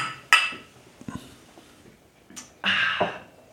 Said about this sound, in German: Das heißt, zum Wohl, einmal anstoßen.